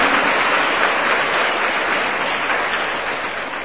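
Loud, sustained applause from a large crowd, given to praise their having taken refuge before the Buddha; a dense wash of many hands clapping at once that holds steady throughout with no voices standing out.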